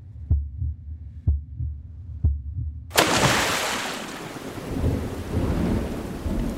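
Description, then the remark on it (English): A thunderstorm over a coastal area: low rumbling thuds open the scene, then a sharp crack of thunder gives way to loud, steady rain with rolling thunder grumbling underneath. “It's still storming. The storm is dying.”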